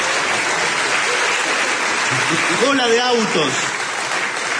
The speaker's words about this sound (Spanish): Y de pronto vemos un cartel que dice, bienvenido kiosco el OVNI. Con el OVNI lo felicito, merece un aplauso.